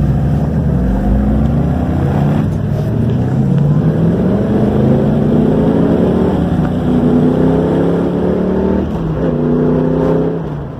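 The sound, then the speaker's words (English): A loud car engine revving sound effect revs up and down repeatedly, its pitch climbing and falling in sweeping bursts with a steady low rumble underneath, continuous with no talking. “So what we do at this point is we pause so that Daniel can cut this out for editing, and then he's going to add the little car revving thing.”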